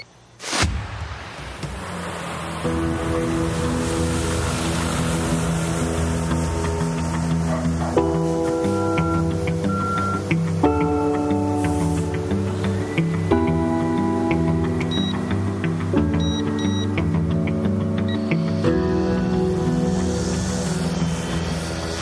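A police drone whirs steadily in flight, its buzzing motor tone holding loud and even while the pitch shifts up and down in steps, after a brief click at the start.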